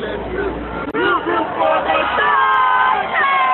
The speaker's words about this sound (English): You hear the seventh-inning stretch there.